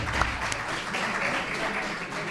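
A crowd applauds steadily, a dense wash of clapping hands that stays at an even, fairly loud level throughout, with no clear breaks or voices rising above it.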